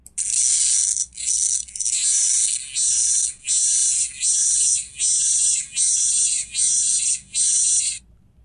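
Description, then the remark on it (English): A raspy locust buzz repeats in about ten evenly spaced, loud bursts, each a harsh high-pitched rasp lasting under a second with brief gaps between, with no voices. “Listeners, that is the raspy sound of a locust.”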